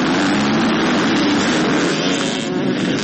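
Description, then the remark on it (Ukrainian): Dozens of motocross motorcycle engines roar together as riders head to the start of an open Donbass Cup race on the Aisty track, raising clouds of dust; a dense, loud, continuous wall of noise, steady throughout with no pauses and no voices. “Десятки мотоциклистов, разрезая воздух ревом моторов и поднимая клубы пыли, выезжают на старт.”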